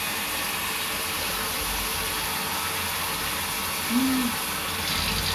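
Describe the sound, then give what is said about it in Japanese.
Tap water runs in a steady hiss throughout, with a brief low squeak partway through as the flow is adjusted to add more cold water, while soap foam is being rinsed off. “もうちょっと水を。”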